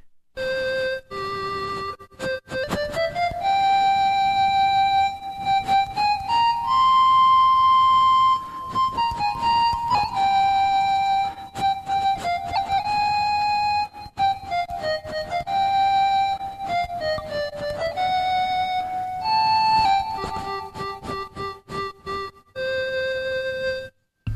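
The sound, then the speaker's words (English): A breathy, flute-like ocarina melody played on the Ocarina app on an iPhone, with finger combinations for pitch and phone tilt for vibrato, plays on its own for about twenty seconds, sustained notes stepping up and down in pitch, fairly loud, with some brief gaps between phrases. “this particular instrument is called Ocarina. It's built specifically for the iPhone.”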